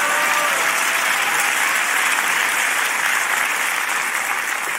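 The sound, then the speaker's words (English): Steady, dense applause from an audience, many hands clapping at once in a continuous loud wash of sound with no voices standing out. “Clap because it's good anyway.”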